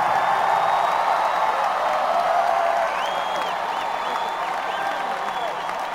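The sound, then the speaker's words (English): Sustained applause from a concert audience at the end of a band's show, a dense steady wash of clapping with a few whoops and cheers rising over it, holding loud throughout with no break. “And while we're clapping, if you can give it a big hand.”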